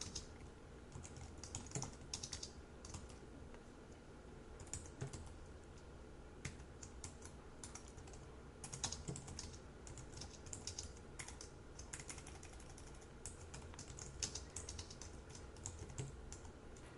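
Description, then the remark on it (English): Steady computer keyboard typing of program code, with a quick, irregular rhythm of soft clicks and taps running the whole time, no voices, over a faint low background hum. “I'm tired of typing this part out.”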